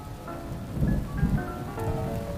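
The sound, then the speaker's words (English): Soft, sparse piano notes ring out over a steady hiss of rain, with low rolls of thunder swelling twice in the background. No one speaks. “So it's beautiful little majestic keys with like the call of thunder and stuff happening in the background.”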